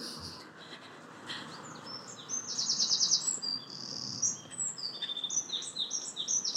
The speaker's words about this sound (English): Don't know if you heard that wren. Got loads of wrens here.